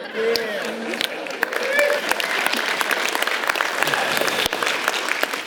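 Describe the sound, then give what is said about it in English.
A crowd applauds steadily, dense overlapping claps at a fairly loud level, with faint voices and whoops rising through the clapping. “Okay, I knew everyone had clapped”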